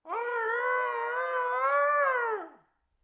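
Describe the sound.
A voice imitates a cat's meow in a falsetto singing voice, one long drawn-out, steady wail lasting a couple of seconds before trailing off, fairly loud with no other sounds around it.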